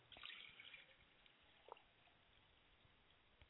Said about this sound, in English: I pour libation and a glass of water to my mother's spirit, Ashe.